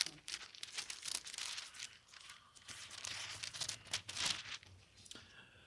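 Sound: paper pages being flipped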